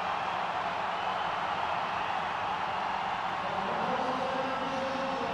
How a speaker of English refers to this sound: Well, let me just let you hear the noise of the crowd for a moment.